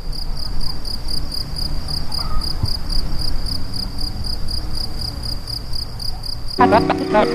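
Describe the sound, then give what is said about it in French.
Crickets chirp steadily in a continuous, rapid pulsing trill over quiet outdoor ambience with birds, in a regional natural park, with a brief burst of other sound entering near the end. “Et oui, des oiseaux, des grillons, ambiance assez naturaliste finalement, des sons proposés par Anne Dubosc qu'on va retrouver durant cette émission, mais qui nous permettait là aussi de se situer de façon sonore aussi dans ce parc naturel régional,”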